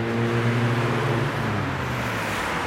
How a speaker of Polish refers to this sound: Gdyby nie te samochody, byłoby cudownie, bo słychać i ptaki, i troszeczkę ten szum drzew. No, samochody się przebijają okrutnie w tym wszystkim.